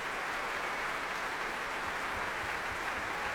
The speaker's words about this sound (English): The orchestra cheering and clapping Nicola Benedetti as she returns to the stage with Donald Ronicles.